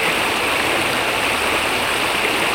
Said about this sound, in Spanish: Hija, vamos a desviar la quebrada.